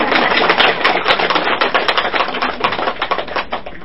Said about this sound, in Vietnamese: À, cho cô tràng pháo tay á.